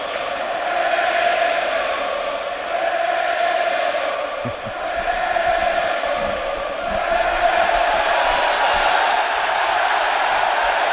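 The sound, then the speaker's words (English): A packed, standing-room-only baseball stadium crowd at a 2013 Pirates game roars steadily, trying to rattle pitcher Johnny Cueto, a loud, dense wash of voices that dips briefly midway, then swells back up even stronger. No one speaks clearly over it. “Well, this standing room only crowd trying to get under Johnny Cueto's skin, and they might be.”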